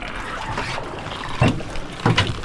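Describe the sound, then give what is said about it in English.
A small skiff moves through the water of Whiting Harbor to a new site, with a steady wash of churning and splashing and two louder surges of water sloshing against the hull, with no voices. “Back in Whiting Harbor, the skiff has moved on to a new site.”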